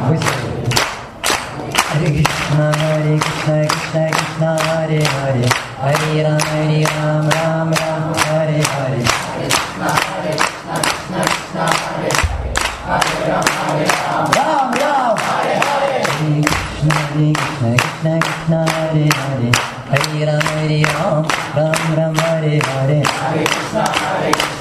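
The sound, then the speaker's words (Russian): Steady rhythmic hand clapping in a quick, even beat during a kirtan runs under a group chanting the Hare Krishna mantra together in sustained, melodic voices, the claps loud and continuous throughout. “Как только мы хлопаем в ладоши, сила киртана сразу в несколько раз увеличивается.”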